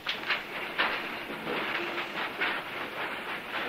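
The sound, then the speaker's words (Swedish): Train wheels clatter steadily over rail joints in a rhythmic, repeating clack as trains run from the station to the death camps, with a continuous rumbling hiss underneath, moderately loud, with no voices. “Från stationen går tågen direkt till dödsfabrikerna, till arbetsläger som SS kallar dem på sitt nyspråk.”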